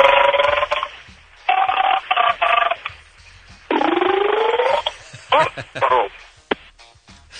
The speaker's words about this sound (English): You know, I think we did it years and years ago, but do you remember a phone segment where we had people call it in who were saying and singing things while they burped?